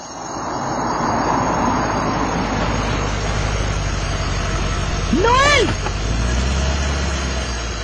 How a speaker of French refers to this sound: Ah mais je crois que voilà sa voiture qui vient.